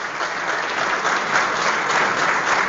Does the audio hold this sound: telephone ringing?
no